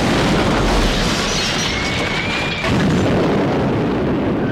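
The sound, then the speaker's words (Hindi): Loud, dense rumbling of explosions from Pakistani Sabre jets bombing Indian positions rolls on without a break, heavy low booms layered into a roaring wall of noise, with a thin high whine passing through midway. “अगले दिन engineer company ने एंटी टैंक माइंस लगाई ही थी कि पाकिस्तानी साइबर जेट्स ने भारतीय ठिकानों पर बमबारी शुरू कर दी।”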